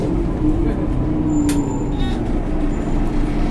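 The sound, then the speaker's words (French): A Strane bus engine rumbles steadily, and a short sharp hiss of air brakes bursts out about midway, with a thin high squeal lingering over the idling motor. “Ah oui, c'est la ligne de bus.”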